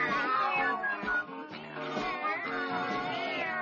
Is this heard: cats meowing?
yes